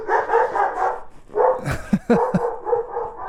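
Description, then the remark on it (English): Several house dogs, not sled dogs, barking and yipping together, a busy overlapping chorus of sharp barks, with a few louder bursts standing out near the middle. “Those are not sled dogs, are they? No, those are house dogs.”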